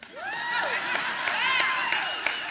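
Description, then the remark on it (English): A crowd of women cheering and whooping, with high rising and falling voices over steady clapping, loud and continuous for the whole stretch. “Man, you should note the women cheering on that point.”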